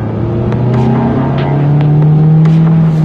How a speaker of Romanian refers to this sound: Sunetul fericirii. Un motor pe benzină aspirat, care sună demențial în turație și nu se turează degeaba, 9 secunde de la 0 la 100 km la oră.